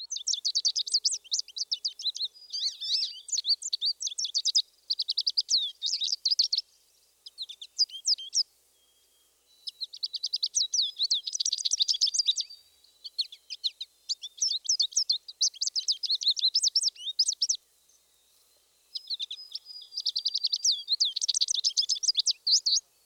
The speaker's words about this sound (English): The American goldfinch, our last bird in this group, gives a high-pitched, lively song.